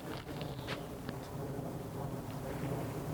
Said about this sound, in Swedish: Det andra ljudet är ett svagt flygplansmuller.